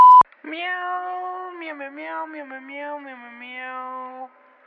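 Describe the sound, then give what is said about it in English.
A single long, drawn-out meow from a male cat, fairly loud, wavering in pitch for about four seconds after a brief click at the start. “He's pretty rude, that cat of yours.”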